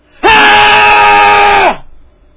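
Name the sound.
man screaming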